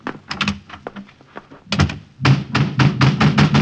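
A heavy cellar door thuds shut, surrounded by a rapid flurry of loud wooden knocks and thumps that grow denser and heavier toward the end.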